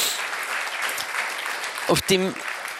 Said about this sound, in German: Herzlichen Applaus.